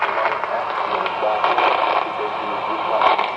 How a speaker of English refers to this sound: Now, if we're outside where we didn't have any noise, you take this and tune the station basically out. I'm just getting a lot of noise here from lightning hits and everything.